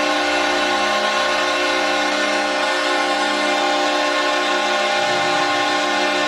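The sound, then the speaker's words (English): A long, loud arena horn at the Saddledome in Calgary marks the end of an NHL game, Calgary Flames 5, San Jose Sharks 2, blaring on one steady, buzzy pitch for the full six seconds, never wavering, with a low rumble of crowd noise beneath it. “And that's a long horn for the fans here in the Saddledome.”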